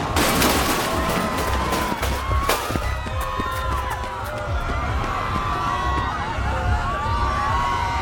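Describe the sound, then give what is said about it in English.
A sharp gunshot cracks out over a loud, chaotic crowd, with several other abrupt bangs and agitated voices shouting throughout. “Before I can react, I hear a gunshot.”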